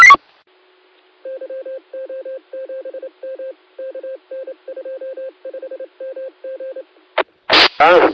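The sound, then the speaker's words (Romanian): A long run of short telephone keypad beeps, around twenty in quick uneven bursts, clear, bracketed by brief louder noises at the start and end, as someone tries to set tones on an MP-800 device. “Că mă chinui de aici viață să-i pun tonul și tonul de zi.”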